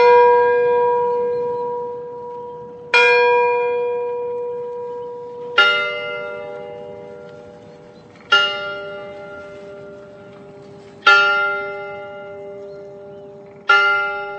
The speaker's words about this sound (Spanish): Sonaron las primeras campanadas de la medianoche en la torre de la iglesia del pueblo cuando la pareja se dio el primer beso.